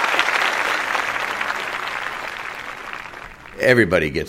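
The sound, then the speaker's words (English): Steady audience applause at the Writer's Block show fills the first few seconds, a dense wash of clapping that slowly thins, then a voice starts speaking as the clapping fades. “Everybody gets a clap.”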